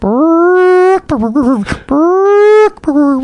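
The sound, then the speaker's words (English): A person vocally imitates a chicken's alarm call for a ground intruder: two loud, drawn-out wailing tones that rise in pitch, each followed by quick, choppy clucking bursts. “And so here's a bird, a chicken, saying, "There is an intruder approaching me at ground level." Here is the word, I've learned it.”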